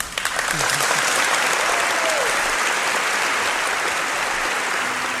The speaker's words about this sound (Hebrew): כן, שמענו את מחיאות הכפיים הארוכות והמילים שנאמרו עליו, ההומור ששומר על השפיות.